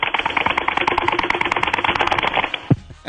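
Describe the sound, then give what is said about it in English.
Rapid, dense keyboard and mouse clicking as someone clicks around the internet, rattling along steadily for nearly three seconds, fairly loud, then ending with one sharper, heavier click before falling quiet. “It starts clicking around the internet. And then I tell him later, hey, we can hear that, by the way.”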